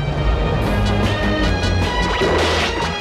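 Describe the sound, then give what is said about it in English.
A spacecraft crashes into the labyrinth and explodes in a fireball, a loud, sustained dense rumbling debris noise roaring steadily for several seconds with metallic ringing tones on top, overwhelming, with no voices; a craft shot down by Barbarella in the film Barbarella. “The craft explodes in a fireball as it crashes into the labyrinth.”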